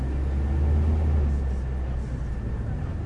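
A bus drives through the Sacred Valley of the Incas, past terraced slopes, with a steady, loud low engine rumble and road noise filling the whole stretch, with no distinct events breaking the drone.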